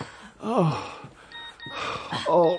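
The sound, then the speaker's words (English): A mobile phone kept inside a corset rings with steady, high electronic tones in the middle, framed by strained, wavering vocal groans and gasps before and after. “Oh, that's me. You really shouldn't have your phone inside your corset.”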